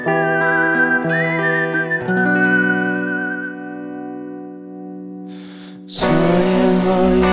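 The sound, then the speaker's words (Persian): A tired man whistles a wavering, vibrato-laden melody over sustained, droning instrumental music, the whistle fading after a couple of seconds while the music carries on and swells again near the end. “صدای سوت اون لبه یه مرد خسته.”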